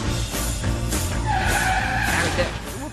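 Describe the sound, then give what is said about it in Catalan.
A car brakes hard with a loud, sustained tire screech that rises and holds for about a second before fading, over a steady rumble of engine and road noise. “Frenada.”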